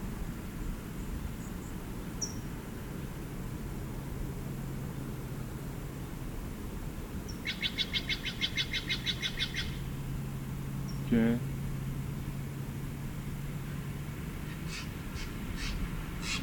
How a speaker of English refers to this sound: Missed 6 songs, same bird.